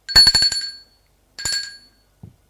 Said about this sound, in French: Deux minutes plus tard, on sonne à sa porte.